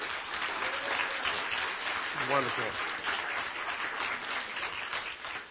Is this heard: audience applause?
yes